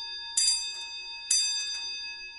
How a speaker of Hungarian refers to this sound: És most ütötte a három órát. Mindig fontos az, hogy meg kell várni náluk azt, hogy leüttetjük az időt.